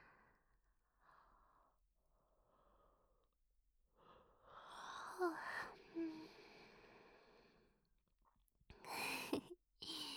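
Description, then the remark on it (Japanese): A drawn-out, contagious yawn, set off by someone else's yawn, swells into a breathy, voiced exhale, followed a moment later by a shorter, sharper breath, with quiet breathing before it. “つられてあくびしちゃった。”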